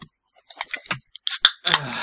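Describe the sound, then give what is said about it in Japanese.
A beer can is handled with a few light metallic clicks, then its tab snaps open with a sharp crack and a loud, sustained fizzing hiss that runs to the end. “あ、もう開ける音した。”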